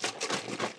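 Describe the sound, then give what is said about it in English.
A fridge door being opened, with a quick run of rattling, clattering bursts like items shifting in the door shelves. Fairly quiet, with no voices. “Here's the fridge being opened”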